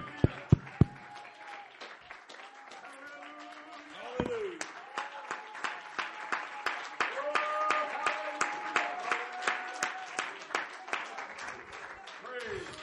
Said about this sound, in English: Would you clap your hands to Jesus one more time?